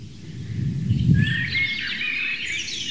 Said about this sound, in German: Währenddessen genießt ihr die Amsel, das ganz zart unterlegt ist vom Rotkehlchen.